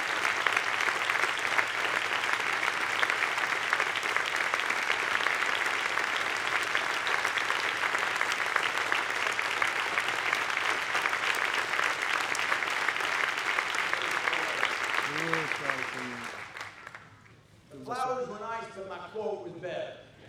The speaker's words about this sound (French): Acclamons. Vraiment, il mérite l'acclamation spéciale.